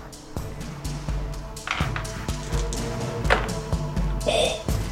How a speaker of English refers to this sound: Let's see. I got a lot of dice I have to roll. Oh, God. I can hear the jingling. Oh, my God.